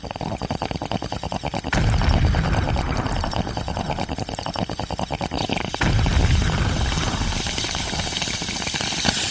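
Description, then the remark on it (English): A rapid, pulsing beat gives way to a loud burst of deep, rumbling noise with a bubbling hiss, then a second booming surge, like a beat drop, a bong rip and explosion effects. No talking. “I'd love a drop the beat followed by a bong rip and an explosion.”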